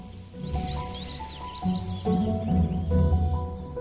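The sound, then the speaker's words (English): A series of songbirds (a bullfinch, a thrush, a blackbird and a robin) sing above a sunlit tree canopy in a steady stream of bright, warbling trills and whistles, layered over a low sustained musical drone that swells toward the end. “Sunlight shining above a tree canopy, then a series of songbirds, a bullfinch, a thrush, a blackbird, and a robin.”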